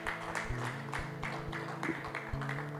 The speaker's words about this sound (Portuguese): Glória a Deus. Aplauda ao Senhor.